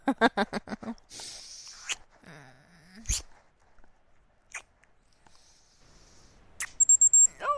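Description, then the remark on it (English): An alarm goes off near the end with a rapid run of about five sharp, high-pitched electronic beeps. Soft rustling and crunchy, chewing-like noises come before it. “Oh, the alarm.”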